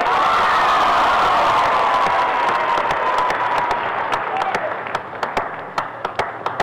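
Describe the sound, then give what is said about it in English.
A crowd claps and cheers loudly, giving a Saturday night welcome to a singing group, in a dense, steady roar that gradually thins until only scattered individual claps remain at the end. “let's give them a nice Saturday night welcome.”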